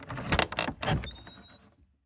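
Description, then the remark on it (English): A bedroom door swings open with a couple of rattling, clunky knocks followed by a thin, high-pitched creak that trails off into silence. “Then the door swung open and...”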